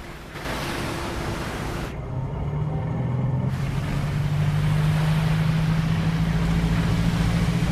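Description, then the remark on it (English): A fishing trawler's engine throttles up in the Atlantic as a hand pushes the throttle lever forward and a net trails off the stern; its low, steady drone climbs gradually in pitch and grows louder over a constant rushing wash of water and wind, with no voices. “A net is released into the water off the stern, and it trails behind the trawler as a hand pushes a throttle lever forward.”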